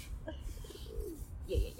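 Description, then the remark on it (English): A pigeon coos softly a few times, low rolling warbles set against a quiet background hum with no talking. “Ooh, yeah, pigeon cooing.”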